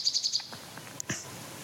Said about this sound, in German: Und bei der Nachtigall ist es so, umso intensiver und länger ich hinhöre, umso tiefer geht der Sound.